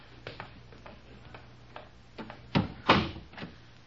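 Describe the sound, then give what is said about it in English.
A door leading down steps to a dark cellar is pulled shut: a few light clicks and creaks, then two firm knocks as it closes and latches, over a low steady hum with no talking. “I'll close the door after me.”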